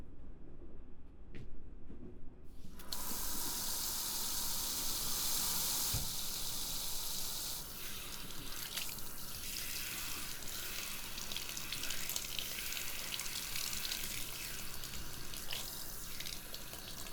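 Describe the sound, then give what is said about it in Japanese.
A salon shower rinses cut hair and dirt from a customer's hair: after a brief quiet start, a steady, bright hiss of spraying water runs on, shifting slightly in tone as the stream moves, with no one talking. “シャワーで切った髪と汚れを落とします。”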